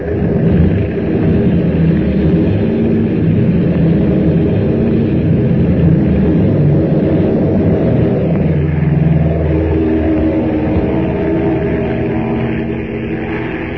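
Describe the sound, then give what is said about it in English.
An airplane engine kicks in almost at once and roars loudly and steadily, its drone shifting in pitch partway through as it powers up for takeoff; no voices. “Where's the starter? That button there below the bank and turn indicator.”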